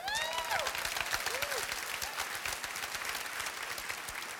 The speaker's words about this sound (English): You know what's funny is all the women are clapping. Woo! Woo! Woo!